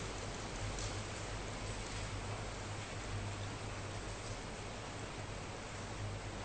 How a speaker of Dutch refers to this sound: Ik zie dat er velen van u ook even naar buiten kijken, omdat er een stortbui is.